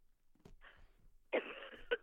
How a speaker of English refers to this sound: Sorry, I'm coughing again. Okay, hold on.